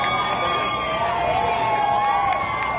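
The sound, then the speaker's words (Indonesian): A large crowd of Trump opponents cheers and shouts continuously outdoors in a park across the street from a New York courthouse as a verdict is read, a dense, steady roar of many voices with occasional higher whoops rising above it. “Sebaliknya di taman di seberang jalan, para penentang Trump bersorak.”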